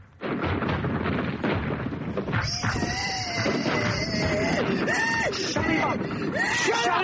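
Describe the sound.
A man screams in panic, his voice rising and breaking in long wavering cries, half-buried under a constant roar of shells exploding right beside him and heavy gunfire.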